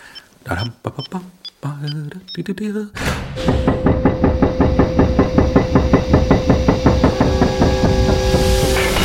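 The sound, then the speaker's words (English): After a brief exchange of voices, a private lift's motor starts up and runs steadily, a loud droning hum with a fast, regular mechanical clatter as the lift travels down to the main vault. “Private lift to the main vault.”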